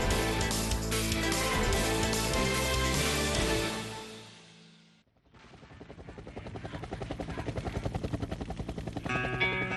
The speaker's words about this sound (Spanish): Otra de las piezas que incluye pues sonido de helicóptero brevemente ahí, seguramente la interferencia